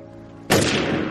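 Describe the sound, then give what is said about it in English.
A single loud gunshot in a film scene cracks out abruptly after a quiet, low-toned lead-in, its sharp blast filling the air and then lingering in a long, broad reverberant decay. “We push in on Fredo, and then we cut back to Michael and the gunshot.”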